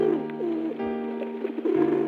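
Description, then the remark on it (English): A pigeon coos steadily in a low, throaty warble, the soft rolling calls repeating with a brief dip in the middle before resuming. “The animal of the week is the pigeon.”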